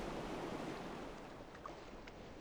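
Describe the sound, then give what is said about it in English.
Gentle ocean waves wash steadily onto a beach, making a soft, continuous hiss with no distinct breaks. The surf sounds fairly quiet, with a faint breeze and no voices. “The waves can slowly start to wash up.”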